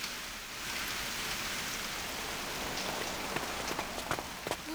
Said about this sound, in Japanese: 雨が強くなってきました。